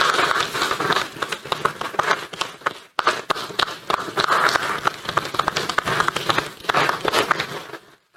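An audience applauds steadily for about eight seconds after a speech on defending fundamental and human rights, a dense, crackling wash of many hands clapping, with a brief dip near the start before it swells again and fades out.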